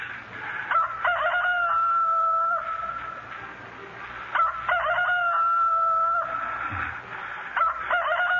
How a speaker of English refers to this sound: My heart's splitting as yours did to hear the cock crow.